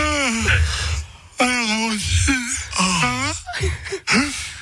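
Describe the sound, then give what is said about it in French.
A person yawns several times in a row, each yawn a drawn-out voiced moan that rises and falls in pitch, with brief breathy pauses between them. “Qui est-ce qui a baillé durant une chronique?”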